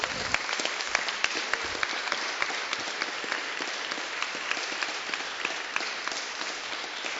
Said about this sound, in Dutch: Geef hem een geweldig applaus.